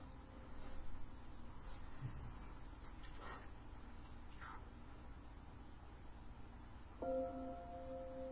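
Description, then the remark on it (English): After several seconds of soft background hiss and faint rustling, light Tibetan bells ring out to begin a meditation, their clear, bright tones sustaining and shimmering through to the end. “So there are the Tibetan bells. They're very light.”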